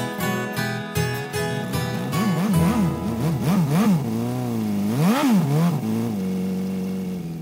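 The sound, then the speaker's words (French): An off-road motorcycle engine revs repeatedly, its pitch swooping up and down in quick bursts before settling into a steady, loud drone, with no talking. “La moto tout-terrain, aujourd'hui à l'honneur dans cette émission”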